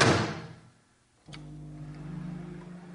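A microwave door thuds shut, then after a brief pause a sharp click sets off a steady, low electrical hum that drones on with no voices present, the microwave starting up with a grape inside for a kitchen science experiment.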